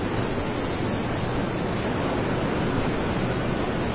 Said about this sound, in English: Just aware that I, the soul, am looking out these eyes onto the beautiful ocean waves and feeling myself move more and more deeply into a simple state of peace.